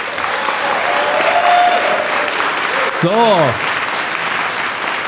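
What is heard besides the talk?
audience applause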